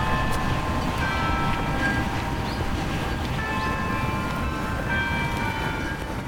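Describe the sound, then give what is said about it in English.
Church bells ring from the church tower in Prague on 29 September 2007 in a continuous, overlapping peal, their sustained metallic tones layered over a steady low rumble of background noise. No one speaks. “Okay, we've got the bells up top.”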